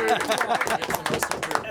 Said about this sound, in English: Way to go. Round of applause.